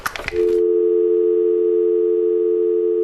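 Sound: telephone dial tone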